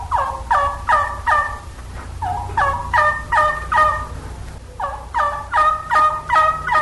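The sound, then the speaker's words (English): Three series of standard turkey yelps from a hunting call, each a run of four or five evenly spaced, raspy two-toned notes, loud, with a low rumble underneath and no talking. “Let's begin with the standard yelp, the perfect call for old gobblers in the spring and also for hens and young gobblers in the fall.”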